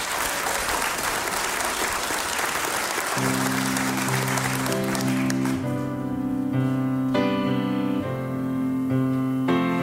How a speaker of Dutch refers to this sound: Wil je een enorm applaus van de zaal? Ja, enorm.